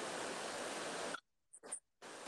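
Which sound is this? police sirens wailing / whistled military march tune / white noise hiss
white noise hiss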